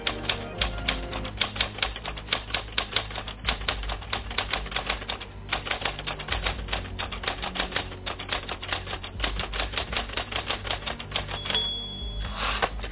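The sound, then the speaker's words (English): A mechanical typewriter clacks away in rapid, uneven bursts of keystrokes, loud, with a brief bell-like ding and carriage pause near the end. No voices. Evokes Ernest Hemingway typing in Key West. “and of Ernest Hemingway, bleeding at his typewriter, battling the demons.”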